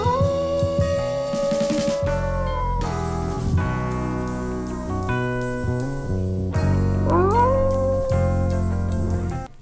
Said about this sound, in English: each wolf is concerned with his own melody, but is also aware of his brothers. The wolves often land on the same note. One or the other will soon shift by a note or two. Maybe wolves like chords. A typical howl may begin with a few long, low howls.